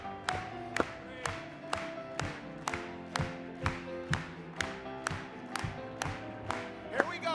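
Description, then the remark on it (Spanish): An audience claps together for Him during a song of praise, in a steady, even rhythm, about two claps per second, crisp and loud over sustained instrumental music and faint singing voices. “Vamos a aplaudir una vez más.”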